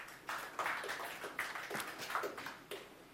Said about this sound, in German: Ich fange mal mit was an, was wahrscheinlich jeder schon mal benutzt hat. Grobes Klatschsignal.